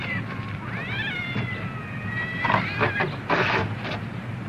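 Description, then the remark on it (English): A cat lets out a long, drawn-out meow that rises and wavers in pitch, followed by a few short scuffling bursts, all over a steady low background hum. “Here, you hold the cat.”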